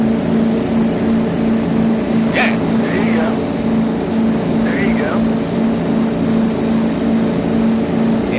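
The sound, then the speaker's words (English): A person uses their voice to imitate a motorboat engine starting up after the keys are turned. The loud, continuous buzzing sound rumbles steadily for several seconds, with a couple of brief rising, revving swoops partway through. “So all I got to do, man, is turn the keys, and I'm like”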